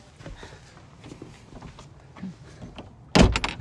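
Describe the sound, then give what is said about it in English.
A front door closes in Ipswich with a sharp, loud thud near the end, preceded by quiet shuffling movement and faint footsteps. “And that's the sound of the front door closing.”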